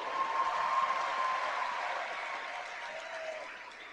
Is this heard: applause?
yes